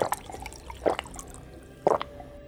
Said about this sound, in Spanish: … toma un poco de agua.